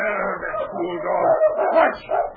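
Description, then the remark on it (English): A steady chorus of high, whiny whimpers from Peggy's puppies mixed with short yips and barks from dogs, overlapping continuously with no pauses throughout. “They were often delayed by Peggy trying to get to her complaining puppies”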